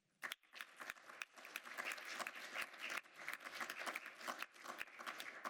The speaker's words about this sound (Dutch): En daarom wil ik ook graag een applaus voor de ambtenaren, de Griffie en niet te vergeten de bodes.